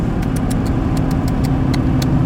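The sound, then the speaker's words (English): A car engine hums steadily while driving and passing another car, a loud, constant low rumble with faint, irregular high ticks scattered over it and no voices. “I just passed someone and they looked up at me like, what are you doing, idiot?”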